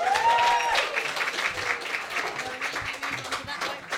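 An audience applauds steadily, a dense wash of many hands clapping that stays loud for the full few seconds, with a brief whistle-like tone near the start and faint murmuring underneath.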